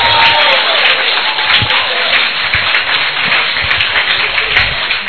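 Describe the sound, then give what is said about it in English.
An audience applauds steadily for about five seconds, a dense, loud wash of many hands clapping at once with no pause and no voices standing out. “If you believe God, give him a clap of him because your future is bright.”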